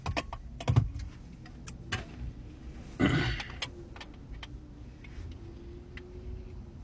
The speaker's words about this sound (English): Phone. Plug in phone. Hit start on car. Seat belt.